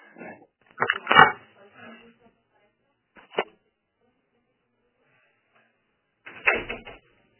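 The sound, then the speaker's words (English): A door is being shut: a loud clattering bump at the start, a short sharp knock a couple of seconds later, then a final heavier thud with quiet gaps between. “Let me just close the door.”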